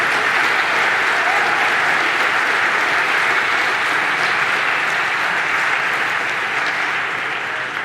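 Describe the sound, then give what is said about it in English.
Sustained audience applause for a talk with a live demo, a dense steady wash of many hands clapping at once, loud and even throughout with no voices standing out, tapering only slightly at the very end. “And thanks, dear, dear audience, for applauding a live demo.”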